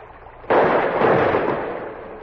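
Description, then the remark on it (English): A sudden, loud gunshot blast, fired at elk in thick woods along a river, cracks out of a quiet background, followed by a long, rough rumbling tail that slowly fades. No one speaks. “I had killed mine, but Cruzat's only wounded went crashing through the brush.”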